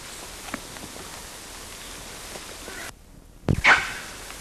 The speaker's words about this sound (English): First bark was by LB. And then CW gave one bark, but most of the barks were by LB.